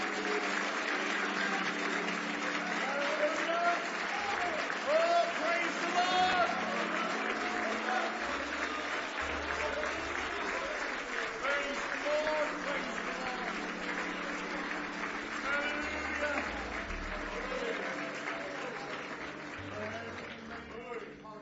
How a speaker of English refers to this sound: Give Jesus one more big hand clap of praise.